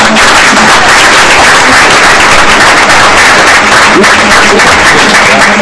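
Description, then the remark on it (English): Loud, sustained applause from an audience, a dense crackle of many hands clapping at once that holds steady for several seconds without letting up. “Let's give them all one last big round of applause.”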